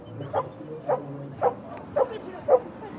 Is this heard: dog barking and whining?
yes